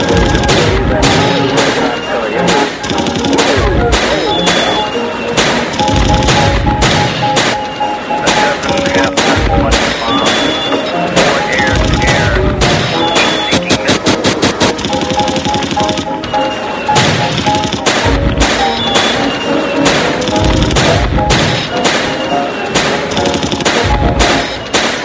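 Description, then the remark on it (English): Loud, booming explosions of very large airbursts with a very bright flash go off again and again at irregular intervals, like heavy gunfire or artillery, with a quick rattling burst midway, all over a steady droning background. “And there's a very bright flash. Enormous explosion.”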